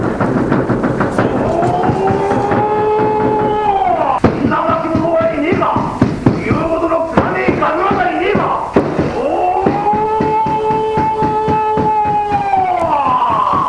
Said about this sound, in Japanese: すごい迫力ですね。これは秋田県の男鹿半島あたりで有名な伝統行事のナマハゲですね。